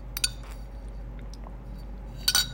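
Someone drinks water from a glass: a sharp clink as the glass is lifted, a quiet stretch with faint swallowing, then another bright clink as it's set down. No one speaks.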